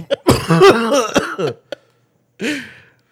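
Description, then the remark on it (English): A loud fit of harsh coughing, several rapid hacking bursts run together, then a short silence before one more rough cough and throat-clearing. “We need color correction every time you cough.”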